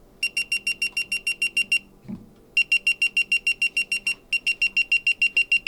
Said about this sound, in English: And recently, Hensgen added to Revo a second alarm or spin alert if the fish starts to pull away.